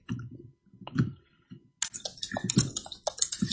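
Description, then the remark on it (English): Rapid keystrokes clatter on a computer keyboard, a quick irregular run of clicks, fairly loud, pausing briefly before a denser burst of typing with no voices. “This keyboard. What am I doing wrong?”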